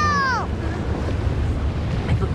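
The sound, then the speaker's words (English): Ocean waves crash and splash against rocks below a sea cliff as the tide rises, a big wave splashing over them in a loud, steady roaring wash, with a brief falling cry-like whistle at the very start. “Fly grabs Stella as a big wave splashes them.”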